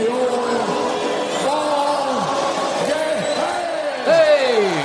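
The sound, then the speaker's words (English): A large baseball stadium crowd at a Cubs game roars and shouts, many voices overlapping in a loud, continuous wall of cheering that swells a little louder near the end. “The crowd is going crazy.”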